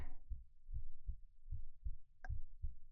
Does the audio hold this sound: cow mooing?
no